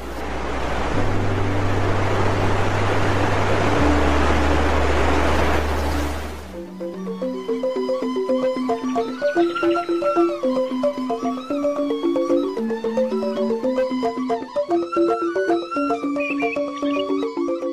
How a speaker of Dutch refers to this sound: Deze treden zorgt ervoor dat het water dat op de zwarte stenen treden valt geen brul maakt, maar er van alle kanten wat speters produceert, waardoor deze waterval er erg mooi uitziet.